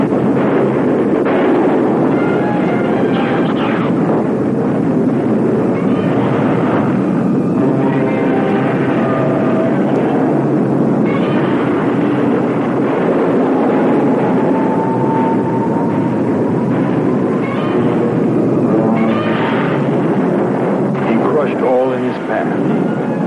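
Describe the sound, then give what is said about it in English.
Godzilla's shrill, screeching roar rises and falls over a dense, loud rumbling din, with the heavy booming thuds of his earth-shaking footsteps and a long sliding tone partway through. “Sound of his screeching roar and earth-shaking footsteps sent thousands running from their homes, fearing for their lives.”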